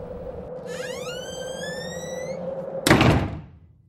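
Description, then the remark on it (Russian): A door to a room slams shut with one loud, sharp bang that rings out briefly, preceded by a rising, whistling swell over a steady low hum. “Дверь в комнату резко захлопнулась.”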